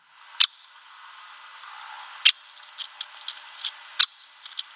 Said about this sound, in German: Mein Bruder und ich haben ihn immer den Kixer genannt, weil es so klingt wie ein Kicks, den Kicksmeister. Also mit K, Kixer. Genau. Wir hören jetzt nochmal den Buntspechtruf.